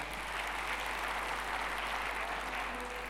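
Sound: audience applause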